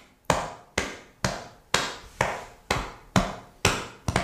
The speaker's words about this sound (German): Wir sitzen gerade, der Brustbeat klingt wie so eine Bassdrum, so ein bisschen dumpf. Ich mach's mal vor.